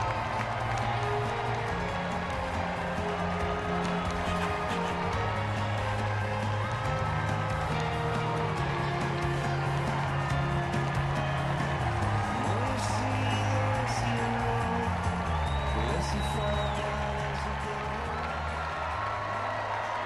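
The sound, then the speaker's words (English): A large convention crowd waving flags and signs cheers steadily as President Barack Obama comes to accept his nomination for a second term, a dense, sustained roar of voices mixed with clapping that holds at an even loudness without letting up. “Lots of people in the audience waving flags.”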